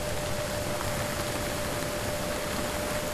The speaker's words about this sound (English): Also recorded a lot of ship noise,